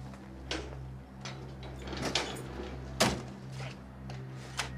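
A house door is opened, with a series of soft knocks and scrapes from the latch and hinges over a steady low hum. There is no talking.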